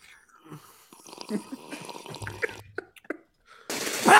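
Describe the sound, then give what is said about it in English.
A quiet sip of a cup of bitter coffee on Biscayne Boulevard, Biscayne Park: soft wet slurping and small liquid clicks, ending in a sudden louder burst of breathy noise. “Let me try this coffee really quick. Let me take one sip.”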